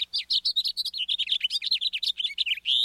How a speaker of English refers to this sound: House finches sing sweetly, but often have a sharp, buzzy note near the end. Listen.